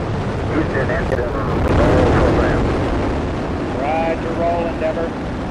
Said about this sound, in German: 2, 1, 0. Booster ignition and liftoff of Shuttle Endeavour with NASA's final space station crew compartment that brings a bay window view to our celestial backyard.